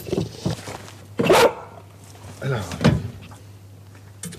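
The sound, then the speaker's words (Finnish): A female Labrador retriever scrambles out of a dog trailer that holds four dogs and gear: a loud clattering thump, a few scuffs and knocks, then another sharp bang, over a steady low hum. “Tämä on tämmöinen labradorin noutaja narttu”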